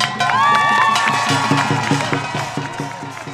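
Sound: crowd cheering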